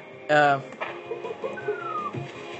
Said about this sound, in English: that is a monkey throwing a coconut out of a tree. And you want to run, you can't do anything about them except for avoid them.